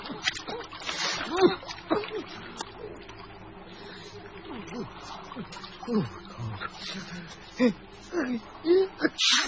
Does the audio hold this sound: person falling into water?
yes